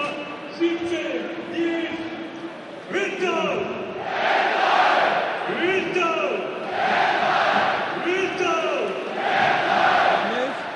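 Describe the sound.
A stadium crowd roars and cheers, the noise swelling in loud repeated waves over about ten seconds, with shouting voices and chant-like tones rising through the din.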